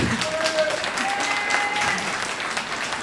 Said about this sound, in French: Si vous applaudissez à chaque fois, on ne va pas s'en sortir.